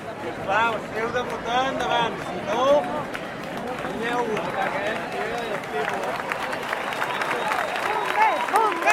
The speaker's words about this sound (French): Les pompiers qui sont arrivés et qui sont applaudis parce qu'ils ont protégé la bonne tenue du référendum.